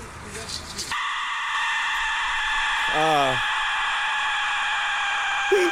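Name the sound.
aztec death whistle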